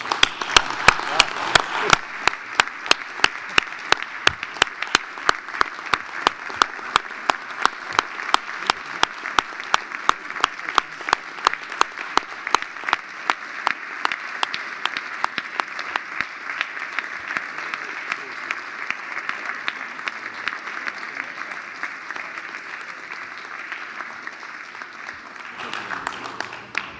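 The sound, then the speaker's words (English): A sustained round of applause from a crowd at an ICANN GNSO council meeting, thanking the outgoing councillors, dense and steady clapping for about twenty-five seconds, gradually thinning and fading toward the end. “So I hope you'll join me in giving them a very heartfelt round of applause in thanks.”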